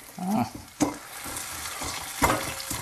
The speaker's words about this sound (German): So, ich mörser jetzt M&M's. Das wird auch richtig schön laut. Ich habe auch einen Mörser zu Hause. Oh, das funktioniert ja richtig. Das ist ein richtiger Steinmörser.